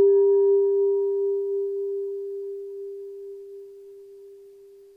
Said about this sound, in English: And as she rings the bell a second time, she'll draw us back in for our conversation on our commentary text.